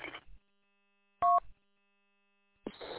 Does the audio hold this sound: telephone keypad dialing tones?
yes